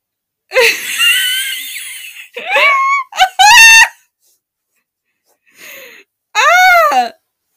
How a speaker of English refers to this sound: Oh, we're both singing right now. I'm screaming.